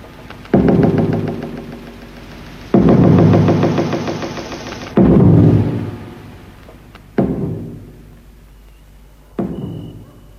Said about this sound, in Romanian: Și iar a venit noaptea. În atelier nu se aud decât loviturile ciocanului.